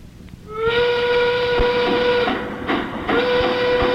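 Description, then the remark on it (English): A loud steam train whistle blows a long, steady harmonic tone, briefly breaking off and sounding again, over the rumbling, hissing chug of the engine. “Arriving on schedule tomorrow on Thursday, it's the 660 Fortune Special. Twice a week, the 660 pulls into Fortune Phone with an extra prize aboard.”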